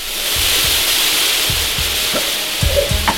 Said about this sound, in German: Gas! Was? Da kommt Gas raus! Gas, mir wird ganz schwindelig.